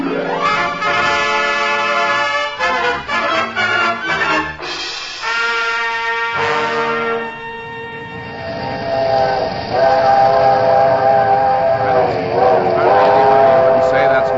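A big steam locomotive working, with loud, sustained multi-toned whistle blasts that shift in pitch over a steady mechanical rumble, ending in a long held chord-like wail.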